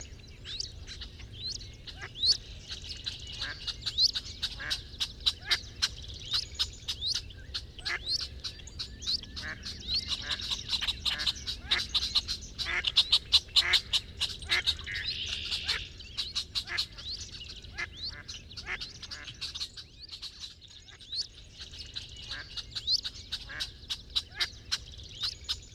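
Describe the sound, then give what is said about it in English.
A steady stream of rapid, squeaky wood duck calls and whistles, many overlapping, with brief quack-like notes mixed in, moderately loud over a faint natural background, no voices. “This has been WSHU's Birdsong Break featuring the wood duck this week.”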